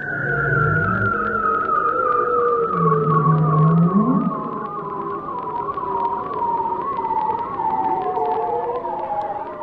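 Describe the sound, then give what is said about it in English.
A bearded seal's spiraling whistle, recorded near Barrow, Alaska: long, warbling tones that slowly glide downward in pitch, layered with lower swooping notes, loud and continuous for the whole stretch with no voices. “here's a little sound I think you collected yourself near Barrow, Alaska, way up there in the cold north, of the bearded seal, the spiraling whistle of the bearded seal.”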